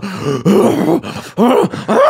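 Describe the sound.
A voice imitates the loud, heavy snorting breaths of a man showering at a rec center, likened to a horse: about four forceful, groaning bursts in quick succession, rough, with brief gaps between them.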